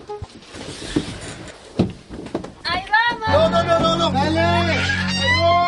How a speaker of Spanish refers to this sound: Voy a abrir la puerta.